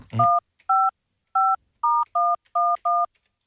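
A sequence of seven clear touch-tone keypad beeps from a phone being dialed to call a listener and hear her voicemail, each short dual-tone press separated by brief uneven pauses, preceded by a quick rustle or handling noise.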